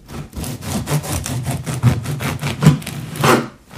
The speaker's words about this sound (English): What do you think he's doing? He is cutting wood. Well done, cutting wood, and excellent answer there.